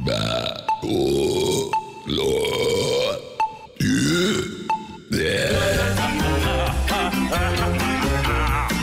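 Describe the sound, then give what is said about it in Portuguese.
Five loud burps in quick succession, a top-five burp lineup on Rede Atlântida radio, each a long rumbling belch with barely a pause between them, followed by a burst of music. “Atenção, emissoras da Rede Atlântida, para o top de formação de 5 arrotos”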